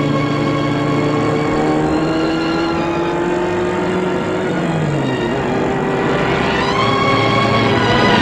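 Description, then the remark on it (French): A car engine hums steadily while a husband drives with his wife seated beside him, its tone sliding lower partway through and then climbing again as it speeds up, a continuous loud drone with no voices. “Elle est assise à côté de son mari qui conduit.”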